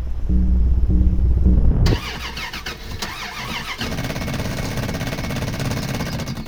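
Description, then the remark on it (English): An old truck engine cranks with a deep, throbbing churn for about two seconds, then gives way to a harsh, steady rattling grind without catching, its solenoid failing again. No voices. “Damn it, it's the solenoid again. Eric was right, I should have junked this thing.”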